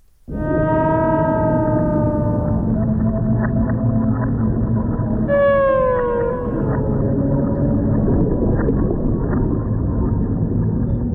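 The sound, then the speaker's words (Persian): Beluga whale calls from Hvaldimir, the white whale known in Norway and said to have spied for Russia: two bright, descending whistles, one near the start and one midway, with scattered clicks over a steady low underwater rumble and no voices. “نهنگ سفیدی که گفته می‌شد برای روسیه جاسوسی می‌کرد.”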